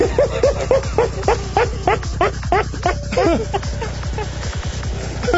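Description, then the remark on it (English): A dog barks and yips in a rapid, excited string of sharp, high-pitched calls, loud, crowding together for several seconds before thinning out toward the end. “I want to know what the dog's name was.”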